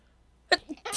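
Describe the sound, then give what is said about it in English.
A single sneeze bursts out after a moment of near silence, a sharp intake-and-release ending in a breathy, hissing expulsion. “Bless you.”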